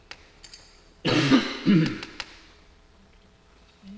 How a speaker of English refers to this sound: Also, just as a side note, for everybody at home wondering about all my coughing, oh my God, he's dying. No, it's the allergies. I get it since I've been 12 years old every year at this time,